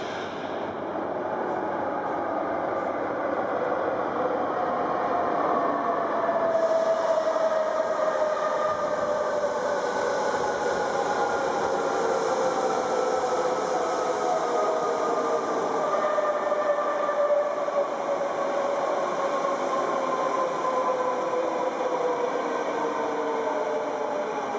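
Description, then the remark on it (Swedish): A subway train rumbles steadily along, its broad, roaring noise constant throughout, with faint high whining tones gliding slowly downward over the din. “Låt mig presentera tunnelbanan.”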